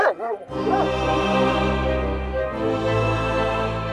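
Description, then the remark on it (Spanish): A dog barks sharply a couple of times, then keeps up a loud, continuous, harsh vocalizing that fills the rest of the moment with no talking. “tengo miedo a los perros pitbull.”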